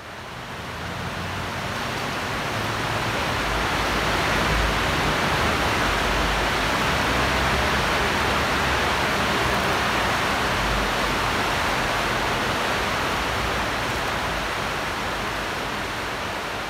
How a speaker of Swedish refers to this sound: Vi hör en flod under järnvägsstationen i Leeds. Här ligger The Dark Arches, bokstavligt talat en dold, kuslig värld. Tegelvalv som leder floden Air in under staden